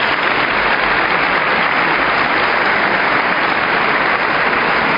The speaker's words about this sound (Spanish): Así que si me acompañáis, chicos, unido a esta enhorabuena, un aplauso para todos los padres, madres, abuelos, tutores.